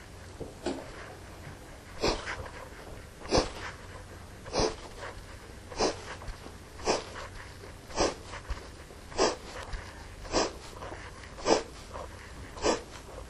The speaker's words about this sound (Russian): Видите, что у меня напряжения нигде нет. Я просто делаю вдох и акцент на выдохе.